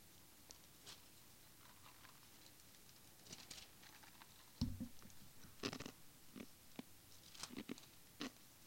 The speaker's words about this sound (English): Chewing ice in the microphone. Bad. What is that noise? Is he chewing ice in the microphone? Can't believe that.